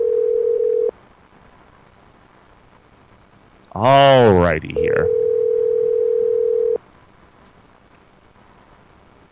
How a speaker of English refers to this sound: Oh, do we love the sound of a phone ringing on the air.